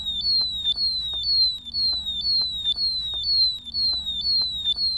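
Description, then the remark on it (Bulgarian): A methane gas detector alarm at an oil well in the yard of a family's house, warning of the presence of gas, sounds a rapid, repeating high-pitched electronic tone, each pulse sliding slightly downward, about two per second, steady and loud over a low mechanical rumble. “Тоа е звукот на алармот за метан кој ги предупредува корисниците за присуството на газ.”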